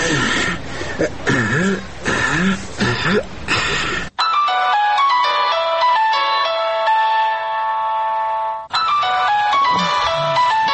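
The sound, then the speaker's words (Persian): A melodic electronic phone ringtone plays clearly for a few seconds, its stepped tones repeating steadily, as a person at the door phones someone inside the house who did not hear the doorbell. A person talks before it starts and again after it stops. “باش که در تلفن زنگ بزنم.”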